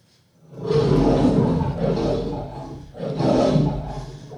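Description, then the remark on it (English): A lion at the LA Zoo gives a deep, rumbling, loud roar in two long surges that swell and fade over a few seconds, with no talking. “The roar alone, we already run.”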